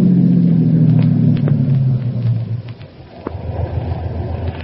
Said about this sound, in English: We'd better pull into this gas station. Won't be another for 20 miles.